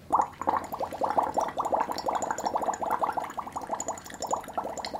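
Steady, rapid bubbling as air is blown through a straw into a glass of water, a continuous gurgling burble of small pops at an even, moderate loudness with no talking.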